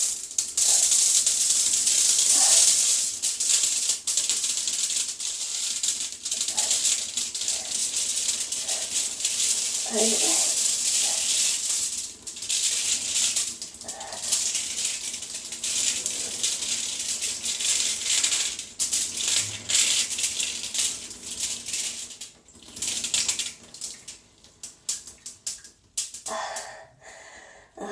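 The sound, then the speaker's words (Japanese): A steady, hissing spray of urine pattering onto crinkly aluminum foil runs for about twenty seconds, then thins into scattered drips and trickles before fading out. “ちょっとシャワーみたいに細かくおしっこが出ちゃった。”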